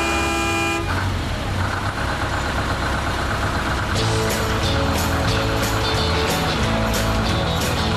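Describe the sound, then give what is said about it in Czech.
A bus engine rumbles and idles steadily, with a short horn toot at the very start and periodic rattling over the low drone. “Krećemo autobus, daleko idemo, nebo plavo, nebo veliko, autobus, tvrda sedišta, autobus, žagru glasova, autobus,”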